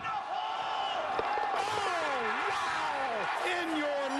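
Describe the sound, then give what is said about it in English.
A big stadium crowd roars steadily as Lambert lines up a setup kick for Revolt in a footy golf round, a dense wash of voices with individual shouts and whistles rising and falling above it, loud and unbroken for about four seconds. “Listen to the crowd. They're going to go nuts when he hits this thing.”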